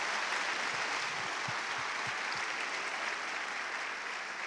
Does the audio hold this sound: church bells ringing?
no